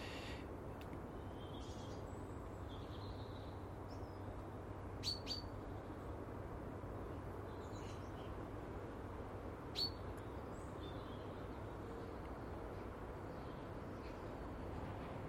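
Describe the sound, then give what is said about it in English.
A blackbird sings faintly in a garden, with soft scattered phrases and a couple of sharper chirps standing out over a steady outdoor hiss. No one speaks. “So long as I've got a Mr. and Mrs. Blackbird in my garden, I've got the basis of a firm foundation in my life.”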